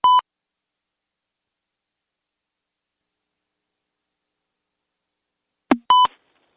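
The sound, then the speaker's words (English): A short electronic phone beep sounds, followed by several seconds of dead silence, then a soft click and a second identical beep, as a phone call keeps getting disconnected. Both tones are clear, with no voices. “I don't know what's going on with my phone, and we keep getting disconnected.”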